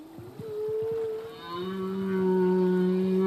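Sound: humpback whale song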